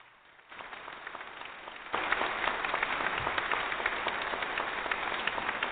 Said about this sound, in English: We made it in about a half hour, and by golly, I'm going to give myself a round of applause.